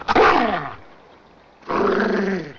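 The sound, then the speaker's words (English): A dog growls twice: a harsh rumbling snarl that rises and fades, a short pause, then a second longer, steady growl. No one speaks. “I wouldn't touch that dog, son. He don't take to petting.”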